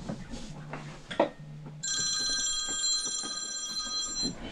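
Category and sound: signal or alarm, mobile phone ringing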